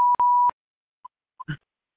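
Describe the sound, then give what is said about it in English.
A phone's electronic beep as a participant mutes their phone to listen to a class: a steady half-second tone with clicks, followed by two short faint blips and a brief rustling click. No one speaks. “They were just muting their phone so that they can listen better.”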